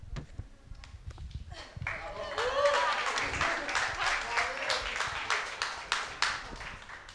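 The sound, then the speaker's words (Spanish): A small audience breaks into applause after a brief quiet moment, the clapping swelling quickly and holding steady, with a few voices murmuring and calling out beneath it. “Bueno, no me aplaudan, porfa, sigo.”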